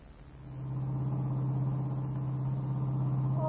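A new cream-colored convertible car's engine drones steadily as it drives from the station, swelling in over the first half second and then holding an even rumble with road noise and no voices.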